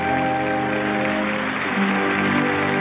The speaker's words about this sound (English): Pictures of veterans, of course, and the audience cheering and talking.